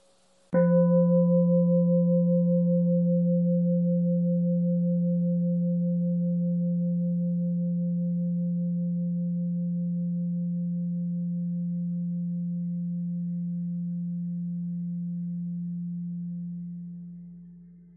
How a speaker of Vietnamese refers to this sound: Mời đại chúng nghe một tiếng chuông.